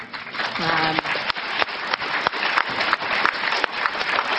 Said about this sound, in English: Oh, that was just a gimme applause.